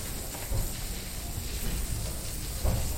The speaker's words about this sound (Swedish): Det är fullt liv här i Gamla stan nu. Här har vi en man som står och spolar gatan här. Vi hör vattenspolar.